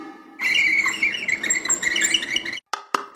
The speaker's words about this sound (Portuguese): O bongô.